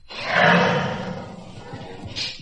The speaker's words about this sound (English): And around the corner at a zoo, a white tiger speaks his mind.